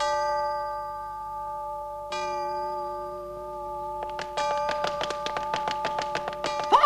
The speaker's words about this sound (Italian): Cerca di uscire prima dell'ultimo rintocco!